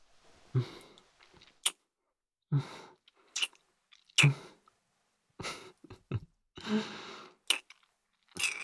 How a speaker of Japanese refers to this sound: キスしたい。してもいいか？ しよう。